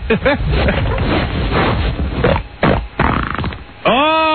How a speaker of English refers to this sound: Oh boy. That's an angry fart. I'm getting the spray out now.